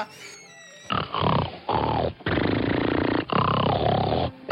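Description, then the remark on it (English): A man snores loudly in four long, rasping breaths with brief pauses between them, each one a rough, rumbling drone that follows a short high tone at the start. “He just snores so lovely.”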